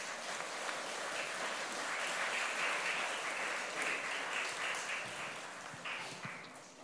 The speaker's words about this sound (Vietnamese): Hôm nay là ngày 19 tháng 11 năm 23, ngày mà các thầy cô giáo khóa Búp Sen Từ Bi dành cho ngày hiến chương nhà giáo của các cháu thiếu nhi tại chùa Giác Ngộ dâng cao một tràng vỗ tay thật lớn để chúc mừng chung.